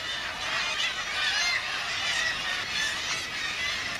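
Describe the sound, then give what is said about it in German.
A dense, continuous din of many seabirds screeching and cackling at once at the Lumpenfelsen breeding cliff, where more than 10,000 birds breed; a massed colony chorus that stays steady and fairly loud throughout, with no speech. “Es war nicht nur viel los, sondern es herrschte großes Geschrei am sogenannten Lumpenfelsen, wo mehr als 10.000 Vögel brüten.”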